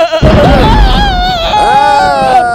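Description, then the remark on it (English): Goats bleat loudly, several quavering, wavering cries overlapping one another for a couple of seconds, with no talking in between. “Okay, once upon a time, it was raining in a dark cave and there was a trailer full of goats.”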